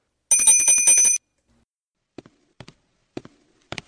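A door bell rings in a rapid, high metallic trill for about a second, then stops; a few soft, evenly spaced footsteps follow in the quiet.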